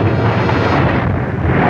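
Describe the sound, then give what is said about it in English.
A car, pushed over a cliff and smashed against the cliffside, erupts into flames: a loud, dense roar of fire that rushes steadily for the whole moment, full and rumbling with a slight dip partway through. No voices are heard. “As the group peers over, the car erupts into flames.”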